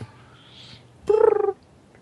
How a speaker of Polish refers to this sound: Nice dubstep. Ja to widziałem dubstep indyków. Świetny był.